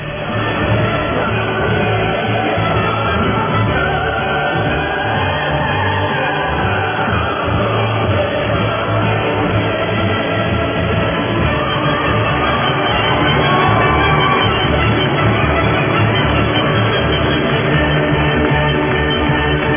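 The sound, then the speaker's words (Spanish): Loud, sustained applause and crowd cheering mixed with the Ode to Joy anthem, forming a dense, unbroken roar that holds steady for the full twenty seconds with no speech. “Démosle el aplauso y el himno de la alegría.”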